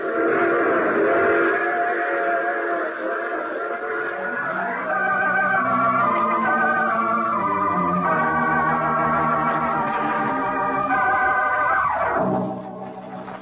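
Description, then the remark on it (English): A train rumbles along steadily while its whistle sounds in long, wavering blasts that shift in pitch, building and then dropping away near the end, loud with no talking. “You see, I take the same train every week at this time.”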